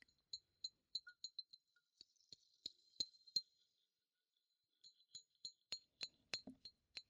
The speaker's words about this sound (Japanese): ラムネのシュワシュワって音も鳴ってて、君は気持ちよーくなりますよ。私の指で瓶を叩く音と、どっちが好きかな？